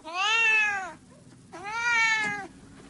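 A cat meows twice, each call long and drawn out with a rising then falling tone, clear, separated by a brief pause with no voices.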